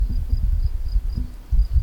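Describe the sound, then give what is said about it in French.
Crickets chirp faintly in a steady, regular pulse, a thin high trill repeating every quarter second or so beneath a heavier low rumble, with no voices. “Grillons. Mouches.”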